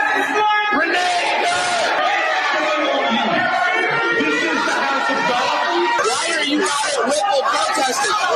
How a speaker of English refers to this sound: Here's what they did yesterday. They actually broke into a Catholic mass to yell and scream at the pastor and everybody else.